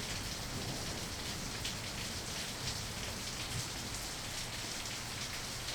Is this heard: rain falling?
yes